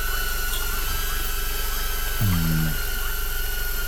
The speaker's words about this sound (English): Back at the national park in Malaysia, … launches a drone from his boat. I'm going to ascend this drone up to see if I can get an eye on where the loggers made off to.